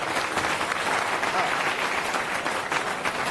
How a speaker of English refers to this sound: So give him a big round of applause to welcome him. Thank you.